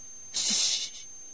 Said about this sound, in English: Shh! Ian hissed fiercely, and Hezekiah subsided.